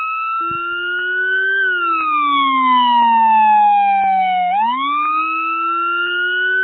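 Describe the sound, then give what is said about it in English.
A loud police car siren, as heard in New York City, wails in a slow falling-then-rising sweep, with an added deep low-pitched bass tone running underneath it in parallel, filling the whole stretch with no talking. “Yeah, it's a buzzing noise, but this is it's a noise that the police make in their cars. This. We're familiar with that noise, but there's something extra added to this.”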